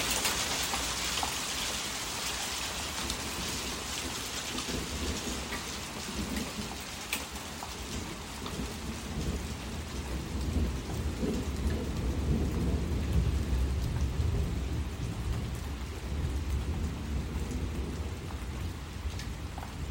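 heavy rain falling outdoors

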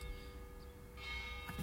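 church bell ringing

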